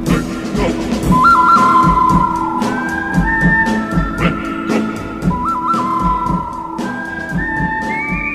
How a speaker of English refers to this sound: And if you think whistling is dorky, maybe you better talk to Clint Eastwood.